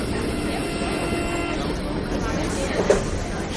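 A train braking to a stop at the Versailles Palace station: steady, loud rumbling and rattling from the carriages, with a short metallic squeal rising out of the noise near the end.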